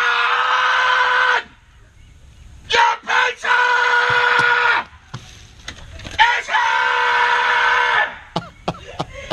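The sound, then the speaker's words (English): A person yells loudly three times in long, drawn-out shouts at a door as a pizza is delivered, with brief pauses and a few sharp knocks or clicks between the calls. “This time they put a sign on the door for the delivery that said, please yell when the pizza is ready.”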